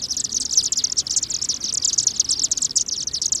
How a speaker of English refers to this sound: We've just witnessed a flock of chimney swifts enter their communal roost site for the night. These birds spend much of the year far to the south, in the Amazon basin of Peru.